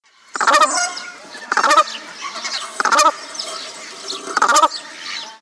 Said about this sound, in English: That was the soft, throaty call of the small, mostly dark brant goose.